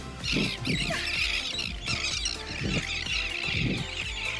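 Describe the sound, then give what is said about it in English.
A dense, continuous chorus of many birds squawking and shrieking at once, loud, with overlapping harsh calls filling the air and no voices. “Oh my gosh, there's so many birds.”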